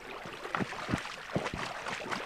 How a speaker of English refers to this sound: just sort of scuffing off, and you can see the water getting a little bit cloudy as your boot just disturbs the silt at the bottom.